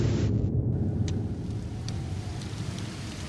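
rain falling

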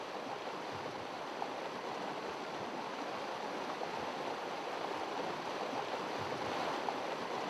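creek water flowing

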